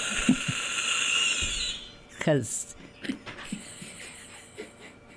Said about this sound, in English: I'm sorry for coughing. I'm getting over a cold.